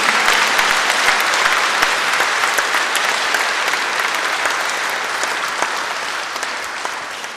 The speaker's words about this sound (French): On peut applaudir Jésus vivant, ressuscité.